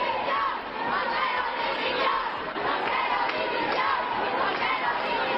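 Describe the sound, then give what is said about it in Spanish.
A large protest crowd of women shouting together at a march in central Madrid, a dense, steady roar of voices that fills the whole stretch without a break, loud, with no single speaker standing out. “Y la ministra de Igualdad, que evitó escuchar esos gritos y eludió participar en la marcha principal en el centro de Madrid”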